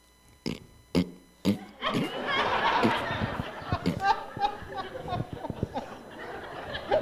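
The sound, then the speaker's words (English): A voice imitates the frog kisses a grandmother gives at night: three sharp, evenly spaced lip smacks, then a long run of croaky, snickering vocal noises with more smacks mixed in. “My grandma doesn't have any pets, but I made her a finalist because of the frog kisses she gives me at night. It sounds like this.”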